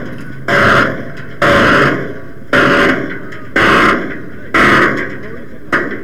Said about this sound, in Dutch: Nou, de hekken gaan dicht, tenminste proberen ze.